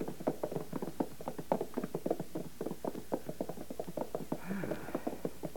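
Hooves of a ridden horse clip-clop at an unhurried, steady walk, each hoof strike distinct in a continuous rhythmic pattern, with no one talking over it.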